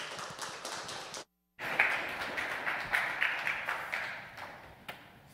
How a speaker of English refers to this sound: Please, good round of applause for Dr. Hugh Ross.